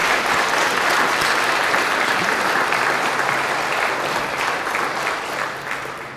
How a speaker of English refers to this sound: Let us first give a round of applause and give thanks to God for these confirmands.